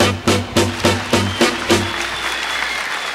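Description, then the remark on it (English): Five evenly spaced, punchy musical hits give way to a steady wash of added-in audience applause that carries on to the end at moderate loudness, with no one speaking. “And there they bring in that audience noise.”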